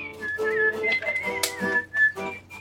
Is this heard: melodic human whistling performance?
yes